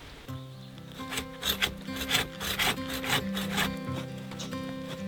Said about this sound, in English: So I headed into the woods with a handsaw and I looked for some small pine trees I could cut down.